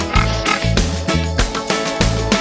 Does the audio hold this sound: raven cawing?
no